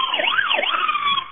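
A police car siren, switched on by the officer in the car, wails loud, its pitch sweeping rapidly up and down in a fast yelp pattern for the whole moment, with no voices over it.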